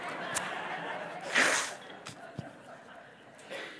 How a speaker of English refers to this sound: Now I'm just going to openly blow my nose, or I'll have to sniff forever. Hold on.